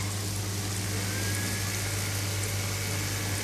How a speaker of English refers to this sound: And start frying those potatoes in that frying pan over there and turn on the vent so it doesn't get too smelly.